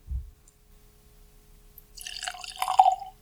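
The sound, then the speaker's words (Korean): A generous amount of bourbon whiskey is poured into a glass by hand, a gurgling, splashing stream lasting about a second after a brief soft thump and a quiet pause, with no talking. “지금은 이제 버번 위스키를 예, 잔에 우리 작가님께서 직접 따라주고, 오, 상당히 많이 따라주셨네요.”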